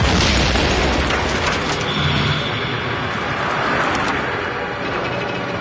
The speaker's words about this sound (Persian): ماشین بهداری عراقی ها از بین نخل های بی سر و جاده ساکت عبور میکنن. یهو بمبی جلوی ماشین منفجر میشه.